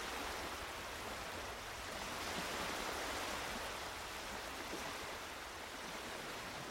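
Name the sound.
river water flowing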